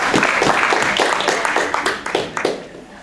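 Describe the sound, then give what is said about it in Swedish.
A crowd at a summer conference applauds warmly, dense overlapping claps at steady volume before gradually thinning out toward the end. “Ska vi ge dem varma applåd?”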